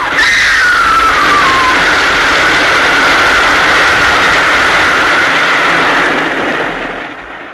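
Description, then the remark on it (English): A train roars past, loud and steady, a shrill whistle sliding downward in pitch at the start, then the heavy rushing noise fades slightly at the very end. No voices. “Oh, there's a train coming.”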